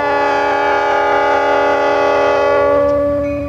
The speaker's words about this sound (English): Well, here's the train coming, so we've got to get out of the way here a second.